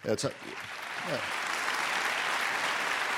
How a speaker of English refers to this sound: They're clapping because it's a sad day. It's a very strange audience. They are the best audience in the world.